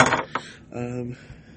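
Scissors cutting tape: a crinkly rustle, a sharp metallic snip, then a short squeaky, tonal stretch of tape before it fades out.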